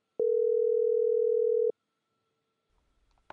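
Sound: telephone ringing tone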